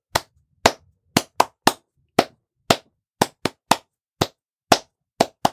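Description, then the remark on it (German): Hands clap out a song's drum rhythm as a practice exercise: about thirteen crisp, sharp claps in an uneven, syncopated pattern, some quick pairs and some longer gaps, with nothing else sounding. “Nein, danach versuchst du, das Schlagzeug, den Rhythmus, zu klatschen und auch aufzusagen.”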